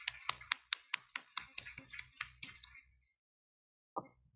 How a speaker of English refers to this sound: We give thanks to the Lord for such beautiful witness and testimonies from these five brothers and sisters. You can clearly see God's work in God's hands upon them. Let's give them another round of applause to encourage them.